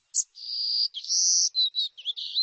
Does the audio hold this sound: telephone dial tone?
no